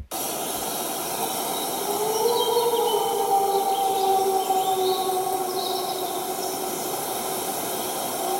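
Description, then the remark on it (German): A long, steady wolf howl from medium distance, with slow, gliding pitch, carries through the whole recording, while the faint, thin song of many robins twitters high above it in scattered bursts. No one speaks. “Wieder Rotkehlchen singend, Wolf aus mittlerer Distanz.”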